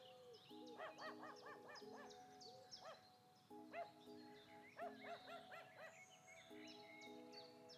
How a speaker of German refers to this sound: In der Ferne hörst du die Nachbarshunde bellen.